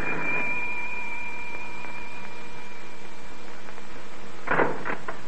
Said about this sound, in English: Then, one afternoon in January 1935, there was a ring at the front door bell.